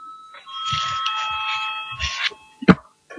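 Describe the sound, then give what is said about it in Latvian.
An electric voting bell in a parliament session, called for just before a vote on a bill, rings continuously for about two seconds with a steady, buzzing metallic tone, then stops, followed by a single dull knock. No one speaks. “Paldies, lūdzu zvanu.”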